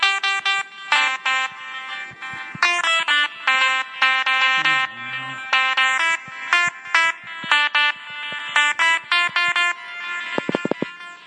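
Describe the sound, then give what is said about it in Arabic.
A toy app called Meow Piano plays a rapid string of bright, synthetic cat-meow notes at varying pitches, some short and choppy, others held, forming a bouncy electronic melody with no talking. “هذه اسمها ميو بيانو.”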